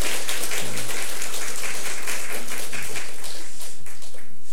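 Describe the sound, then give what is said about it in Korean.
A church audience claps together in sustained, dense applause, steady and fairly loud throughout, with a few faint low murmurs of voices underneath, welcoming first-time visitors and a visiting deaconess from South Africa. “오늘 박수 한번 보내겠습니다.”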